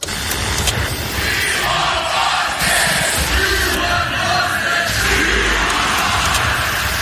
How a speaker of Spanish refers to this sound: Empieza con esto, con los gritos de We want …, queremos a …